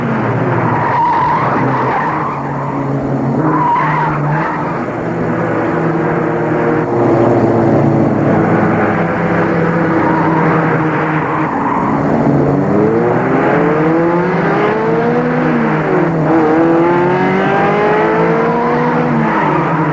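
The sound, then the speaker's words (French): A car engine roars loudly and continuously, its pitch sweeping upward again and again as it accelerates faster, with screeching tires mixed in; no one speaks. “La voiture file de plus en plus vite, à une vitesse folle.”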